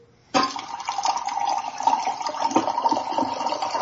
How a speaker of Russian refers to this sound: Я воду наливаю, не боюсь.